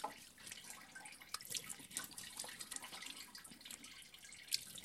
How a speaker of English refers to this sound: And that's it, so I can wash and brush. And this is totally my beauty routine. She uses the water to brush her teeth and clean her face, and it doesn't look at all like there's any lack of cleaning going on.